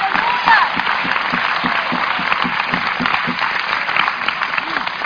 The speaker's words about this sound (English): This is going to be the easiest year you ever had, said the Lord. Clap like you believe that right now in the name of Jesus.